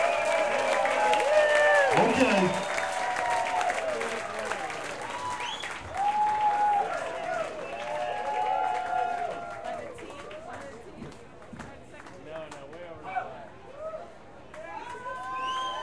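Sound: audience applause and clapping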